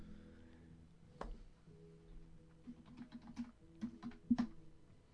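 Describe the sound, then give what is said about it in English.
Keys clatter in quick, uneven bursts of sharp clicks, a stretch of computer keyboard typing at the start of a radio show, with one louder thump near the start and a faint steady hum underneath. “I'm sitting here typing back and forth.”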